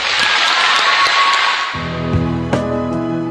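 Loud, dense audience applause at a concert in the NDK, part of the worldwide "Together Against Diabetes" campaign, fills the opening, a steady crackle of many hands clapping. Midway, sustained musical chords enter underneath, and the clapping fades into the music.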